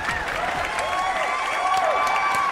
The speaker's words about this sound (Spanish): Aplausos, por favor.